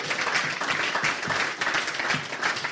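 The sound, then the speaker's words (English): A burst of applause, many hands clapping in a dense, steady patter that stays loud throughout with no voices standing out. “He's got to get a clap for that, surely.”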